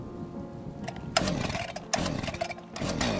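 A chainsaw sputters and starts up, its small engine droning low before bursting into loud, rasping revs that surge and dip several times. No one speaks.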